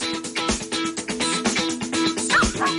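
A dog barks a few times in short, sharp bursts, spaced roughly a second apart, over a dense, continuous background of sound.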